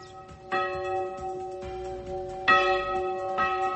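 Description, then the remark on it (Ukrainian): Church bells ring out in a series of four strikes roughly a second apart, each clang leaving rich overtones humming between hits. The peal is clear, with no voices. “їхні бані прикрашають понад 1500 дзвонів та давнє мистецтво церковного дзвонарства відходить тут у небуття.”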